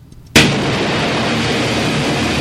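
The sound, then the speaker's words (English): A sudden loud crack of thunder bursts in after a brief quiet moment, then gives way to a steady, heavy rumble that holds at full strength to the end, with no voices. “Oh, here comes the thunder.”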